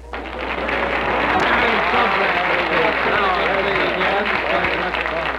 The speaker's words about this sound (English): Applause.